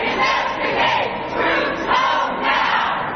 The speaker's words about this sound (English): One of their leaders, Rahm Emanuel, was outlining their agenda when he was shouted down by protesters who say their first priority should be pulling U.S. troops out of Iraq.